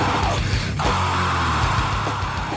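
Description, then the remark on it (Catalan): A loud, sustained human scream, let out to release built-up tension, holds a strained, rough pitch for over two seconds, harsh and raw with little break, then tapers slightly near the end. “Com vos sentiu després d'aquest crit diabòlic?”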